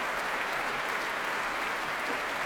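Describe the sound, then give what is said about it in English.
Sustained applause from a large audience fills the Royal Albert Hall, a dense steady wash of clapping hands at moderate loudness with no voices standing out. The audience applauds performers Marco Blau and Tina Ting-Helsett, back on stage with composer Matthias Pintscher after a performance of Chute d'Etoile. “And here are Marco Blau and Tina Ting-Helsett back on stage with Matthias Pintscher. And he's applauding them warmly.”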